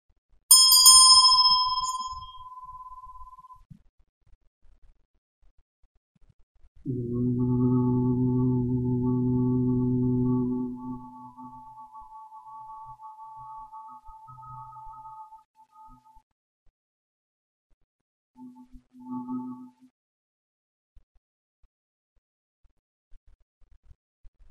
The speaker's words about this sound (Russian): Продолжаем гудение, чувствуем звук именно в том месте, куда мы хотим его послать.